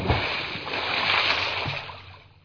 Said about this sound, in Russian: Но так как утки летели очень быстро, то она упала не прямо на то место, над которым закричала и где была твердая дорога, а гораздо дальше, что было для нее большим счастьем, потому что она бултыхнулась в грязный пруд на краю деревни.